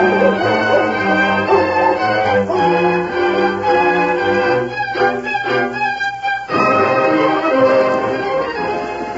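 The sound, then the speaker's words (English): A hound bays loudly while following a scent, giving a run of long, drawn-out, howling barks one after another with no pauses for talk. “And give the hound a whiff and see if he can get a scent and follow it.”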